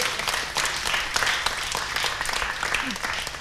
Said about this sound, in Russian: Аплодисменты, да.